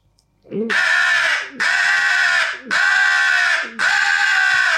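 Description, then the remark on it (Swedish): Four loud, harsh, raspy caws follow one another in a steady rhythm, forceful, imitating an aggressive crow calling, blown on a pro crow call pipe. “Hur låter en aggressiv kråka?”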